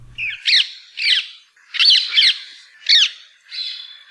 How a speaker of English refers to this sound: we've got the songs, or rather the squawks, of the introduced rose ring parakeet that is courtesy of recordings from the Macaulay Library of the Cornell Laboratory of Ornithology.